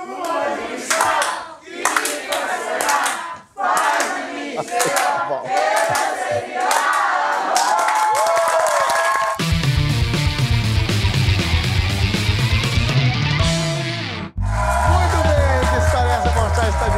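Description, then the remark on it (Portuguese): A studio audience sings a song together, loud, with rhythmic clapping at first, then accompanied by full instrumental backing music with a steady bass line. “vou pedir pra minha plateia cantar Lua de Cristal pra Xuxa”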